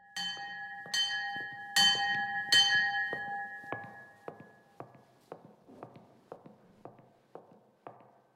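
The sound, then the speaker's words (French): An observance bell in an Augustinian nuns' monastery, used to mark the times of the day, is struck four times in quick succession, each clang leaving a lingering metallic ring, followed by a steady series of footsteps walking away. No one speaks. “C'est majoritairement des cloches des observances qui permettent de rythmer la vie des Augustines.”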